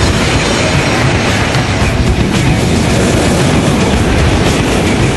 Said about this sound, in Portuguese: E olha, eu tenho certeza que ele vai aparecer. Mas não é para uma entrevista, não. É uma carona. Com vocês, o trem-bala do Japão, o Shinkansen.